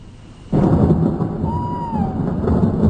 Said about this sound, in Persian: رعد و برق هم که شروع شده و به زودی بارون میاد.